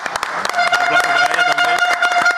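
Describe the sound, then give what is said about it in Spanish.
A short burst of applause, several hands clapping quickly, with a steady tone holding underneath and a faint voice mixed in. “Es con esta, con un aplauso”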